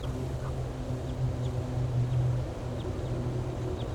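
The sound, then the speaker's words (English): Faint, short high-pitched flight calls of a wild bird repeat roughly every second over a steady low rumbling drone, with no voices. “Giving flight calls. Pointing at the wild bird.”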